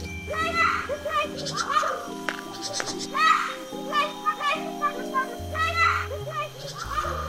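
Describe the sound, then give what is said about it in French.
A MacGregor's bowerbird mimics the sound of children playing, producing a lively stream of high, childlike chattering and squeals over a steady low tonal backdrop, with no real voices present. “Ce que vous venez d'entendre, ce ne sont pas des enfants qui jouent. C'est bien l'oiseau jardin de MacGregor dans ses œuvres.”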